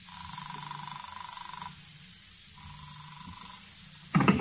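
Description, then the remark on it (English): A telephone ringing tone repeats through a receiver, two steady buzzing rings separated by a pause, part of a call left ringing 17 times with no one answering, then a short burst of louder noise at the very end. “17 rings. They don't answer.”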